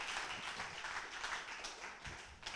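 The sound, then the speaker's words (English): An audience claps steadily for a few seconds, a dense, even wash of many hands patting at once, with no one speaking over it. “Your clapping is not nice at all.”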